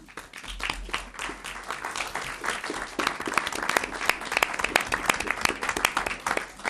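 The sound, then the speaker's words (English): A steady round of applause at a legislative conference committee meeting, dense overlapping claps sustained for several seconds and growing slightly louder toward the end, with no talking over it. “And everyone deserves a round of applause.”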